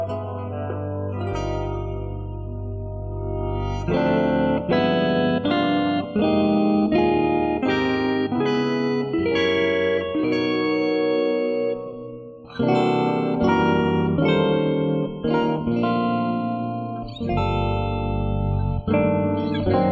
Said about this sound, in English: So the tie-in is, it starts with this electronic harmonized vocal, and then the guitar does that part, essentially on the outro, just simply a guitar.